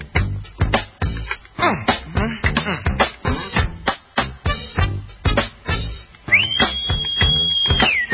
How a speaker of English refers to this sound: No whistling at women. Isn't that catcalling? You can't do that.